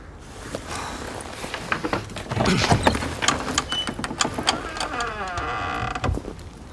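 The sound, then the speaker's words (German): A door is opened with a series of mechanical clunks and rattles, followed by a short, strained creak of hinges near the end, fairly loud with no voices. “Wir machen die Tür auf.”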